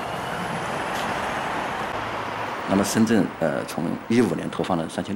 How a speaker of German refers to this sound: Innen hört man keinen Motorenlärm mehr und hier draußen stinkt es nicht nach Dieselabgasen. Sie steigt ein, die Türen schließen sich und der Bus rollt mit einem leisen Surren der Elektromotoren davon.